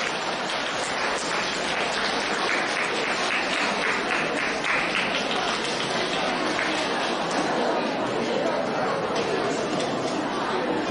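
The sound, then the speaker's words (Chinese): A large audience claps loudly and steadily for about eleven seconds to welcome station director Lu Junhong, a dense, continuous wash of applause with a murmur of crowd voices mixed in. “现在请用最热烈的掌声恭请我们尊敬的卢军宏台长为我们慈悲看图腾。”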